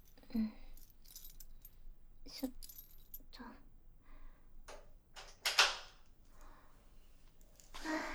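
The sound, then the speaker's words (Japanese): Keys jangle and clink, followed by a lock turning and a love hotel room door being opened, a series of short metallic rattles and clunks over several seconds. “鍵は、”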